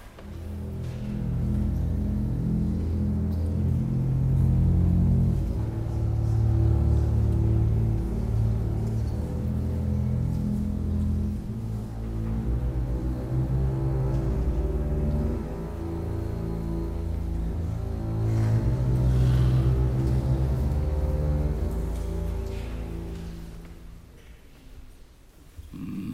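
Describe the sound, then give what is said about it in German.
Low bowed notes on a double bass played at a concert, sustained and rich in overtones, moving from pitch to pitch in a slow, continuous line for about twenty-five seconds with no voices. “Das sind ja auch besonders schöne gestrichene Töne.”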